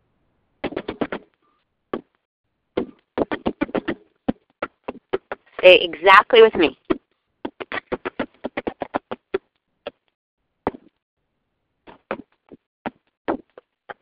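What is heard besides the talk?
rhythmic hand clapping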